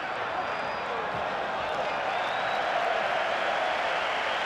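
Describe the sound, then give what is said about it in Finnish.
A large crowd of German football fans behind the goal chants "Deutschland, Deutschland" in rhythmic cheers during a Germany–Denmark match, a dense, steady roar of many voices that holds at an even loudness for the whole stretch. “Michaelin maalin takana saksalaiset yhtyvät tahdikkaisiin kannustushuutoihin.”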